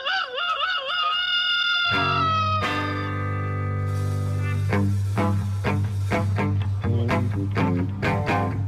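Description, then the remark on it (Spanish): A person briefly imitates a rooster's crow as a homemade doorbell, in a loud, warbling voice for about two seconds, then music with a steady bass line starts and continues to the end. “Yo le voy a dar timbre casero. Dale, …, cacarealo por tu cuerpo.”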